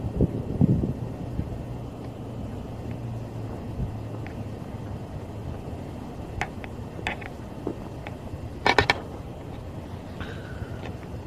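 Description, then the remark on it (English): A steady low rumble of traffic with a faint train sounding in the distance, broken by a few short sharp clicks and knocks toward the end. No one speaks. “Sound of the train in the distance. Sound of traffic.”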